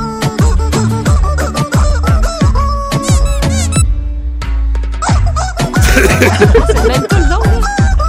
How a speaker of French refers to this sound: Un homme a trouvé son petit chicken en plastique, le petit chicken qui fait coui, coui, coui, là.